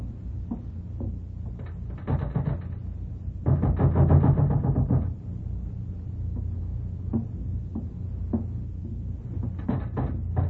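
A closed door of a room is tugged and rattled by hand without opening: scattered knocks and clunks, then a loud burst of jiggling handle and shaking wood, followed by more sporadic thumps and a final rattle.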